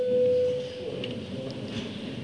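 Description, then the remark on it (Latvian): A single steady electronic tone, the bell called before a vote in the Latvian parliament (Saeima), sounds for about half a second, clear and fairly loud, then cuts off, leaving a quiet murmur. “Lūdzu zvanu.”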